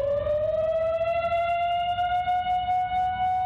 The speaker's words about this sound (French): Le 15 juin 1955, la sirène de la centrale se déclenche à 4h30 de l'après-midi.